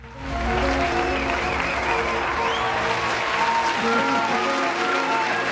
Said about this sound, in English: Yes. So, and some canned applause. I mean, we spare no expense.